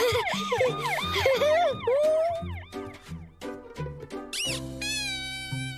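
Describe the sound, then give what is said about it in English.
A toy fire truck's electronic siren wails in rapid, tinny up-and-down sweeps, loud, shifting through several warbling patterns and ending in steady electronic tones. “It's got a siren.”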